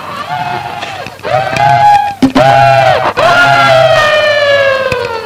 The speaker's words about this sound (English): All his flesh was torn off, but he was too mean to die. He ran into the woods screaming, fleshless.